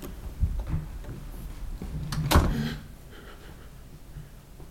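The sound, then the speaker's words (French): A door opens with a sharp, scraping burst midway through, preceded by a few dull low thumps and followed by a quiet, faintly humming room. No one speaks. “La porte s'ouvre maintenant.”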